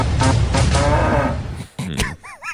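A cow moos loudly, one long low drawn-out call followed by shorter bellowing bursts, with a few quick higher warbling sounds at the very end.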